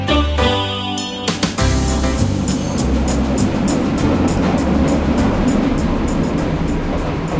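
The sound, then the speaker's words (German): A subway train rides along with a steady, loud rumble and a rising motor whine at the start, while the wheels click rhythmically over the rail joints throughout. “Heute kommt mir die Fahrt mit der U-Bahn irgendwie länger vor als sonst.”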